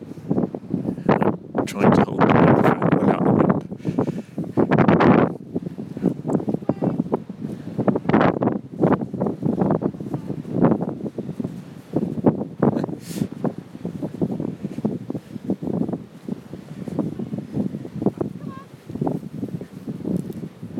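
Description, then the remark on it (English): Cold wind gusts across a big open field, buffeting the microphone with a steady low rumble and irregular bursts of rushing air, while muffled voices come and go underneath throughout. “And it's very cold and windy.”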